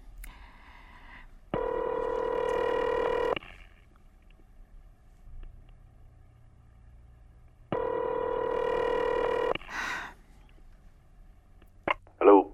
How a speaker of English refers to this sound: Oh, it's ringing.